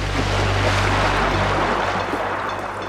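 Continuous rushing ocean water and waves as a cave diver in a wetsuit dives into the water, loud, with a low steady hum beneath for the first half that then fades. No one speaks.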